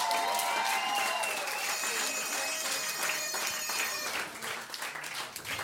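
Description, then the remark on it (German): Sustained audience applause at a carnival club event, a dense steady wash of many hands clapping at high volume for several seconds, with cheering or whistle-like tones riding on top before it thins slightly at the end. “Vielleicht mal einen Applaus für unseren Wolfgang, oder?”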